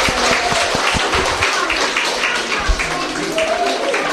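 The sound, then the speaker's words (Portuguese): A crowd applauds fellow participants steadily, many hands clapping in a dense, continuous patter that holds at an even, fairly loud level for several seconds. “Dámoslle un aplauso aos compañeiros.”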